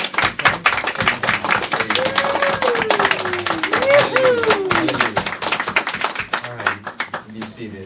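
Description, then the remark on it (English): An audience claps steadily in a dense, continuous round of applause honoring mothers on Mother's Day, with cheers and voices rising over the clapping before it thins out near the end. “And we just want to give you a round of applause because we appreciate all you do for us.”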